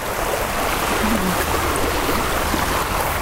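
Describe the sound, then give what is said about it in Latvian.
A steady rush of running water, a small spring flowing over a dolomite cliff on the bank of the Daugava River near Staburags, Latvia, where a small tufa rock is slowly forming, splashing over rock, continuing evenly without pause and with no voices. “Par dolomīta klinti tek avotiņš, zem kura lēnām veidojas maza šūnakmens klints.”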